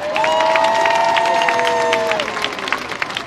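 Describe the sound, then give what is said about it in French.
A crowd of some tens of thousands in St. Peter's Square cheers loudly with scattered clapping as the Pope appears at the Apostolic Palace windows for the Angelus, while a sustained high whistling tone holds steady over the roar for about two seconds before the cheering thins out. “L'évêque de Rome paraît aux fenêtres du palais apostolique et lance son cri pour la paix sous les vivats de la foule.”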